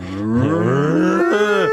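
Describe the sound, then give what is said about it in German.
A single long cow moo, loud, with a rich harmonic tone that slowly rises in pitch and then drops sharply at the end. No talking. “Ich habe noch nie eine Kuh gehört. Auf der Welt sagt Mu, Mu, Mu.”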